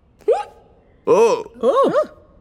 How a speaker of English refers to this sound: Suddenly, … hiccups very loud.